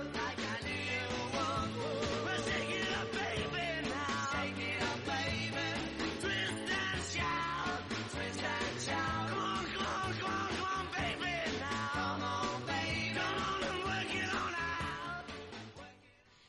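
A loud, energetic rock and roll song plays continuously with driving drums, guitars and shouted vocals, full and dense throughout before fading at the very end.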